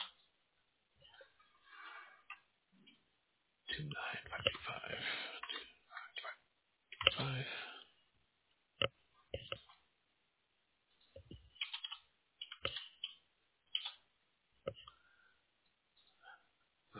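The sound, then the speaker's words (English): Typing on a computer keyboard while filling out a form: irregular bursts of quick plastic key clicks with brief pauses between runs, a couple of denser clusters, and otherwise quiet surroundings. “I'm just typing along here. Don't mind me. I'm just filling out my side.”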